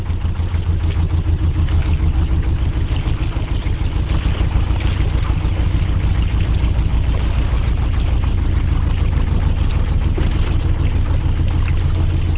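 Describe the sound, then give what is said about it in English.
A canal barge's diesel engine chugs steadily in Birmingham, a deep, even throb running loud and unbroken with a faint watery wash mixed in. “No, it's a canal barge in Birmingham, actually.”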